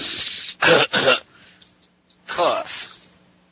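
coughing

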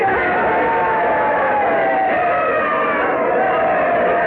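crowd cheering wildly

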